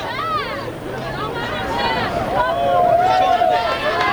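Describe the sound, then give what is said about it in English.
A dense crowd of protesters surrounding an NBC news truck shouts and clamors all at once, many overlapping loud voices, the roar of the mob swelling slightly toward the end as police approach the van. “They are completely surrounded by protesters.”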